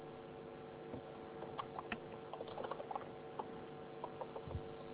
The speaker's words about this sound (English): Are you listening to my story? Yes. Stop typing and listen.